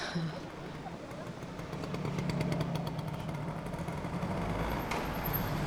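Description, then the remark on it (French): A small scooter engine buzzes, its droning hum swelling louder after a couple of seconds as it revs, then holding steady amid faint street noise, as a young man with a phone in his hand starts his scooter. “Tiens, il y a un garçon, il s'est avancé de son scooter, il a le portable à la main, il met son scooter en route, il lève le capot, il range, il cherche, il va peut-être sortir son casque.”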